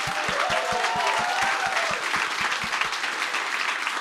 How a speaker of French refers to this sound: Mesdames et messieurs, donnez une bonne main d'applaudissement pour … et ….